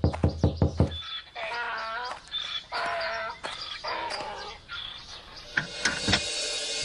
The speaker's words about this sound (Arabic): لحظة يا من تطرق الباب.